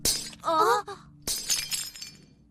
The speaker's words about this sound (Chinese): 爷爷的瓷器怎么连它也碎了？